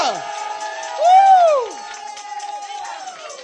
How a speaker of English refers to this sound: And if you believe this, I want you to give the Lord a shout as loud as you can. Come on. Hallelujah.